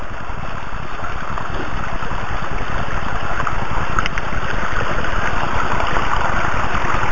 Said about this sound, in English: Well, here it is over here at the waterfall of it.